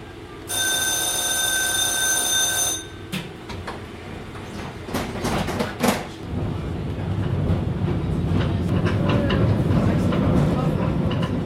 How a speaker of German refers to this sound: So klingt es, wenn historische Straßenbahnen über die heutigen Rostocker Gleise fahren. Die Bahn ist 1961 gebaut und war bis 1996 im Rheinliniendienst.